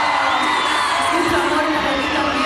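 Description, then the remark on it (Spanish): A large crowd in a plaza shouts and cheers for a singer continuously, a dense wash of many voices with whoops rising above it, loud and sustained throughout. “¡Que se sienta el grito para …!”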